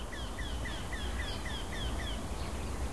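A small, bunting-sized bird with bark-coloured plumage sings a fast, monotonous series of harsh, quacking notes, each a short downward slur, repeated about eight times and rising in speed, over a steady low rumble.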